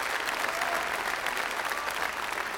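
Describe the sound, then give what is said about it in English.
An audience at Oak Creek Assembly in Milwaukee, Wisconsin claps their hands in praise in a dense, steady burst of applause that holds evenly loud throughout, with many overlapping claps blending into a continuous crackling wash and no voices standing out. “If you want it, then clap your hands and praise Him for it.”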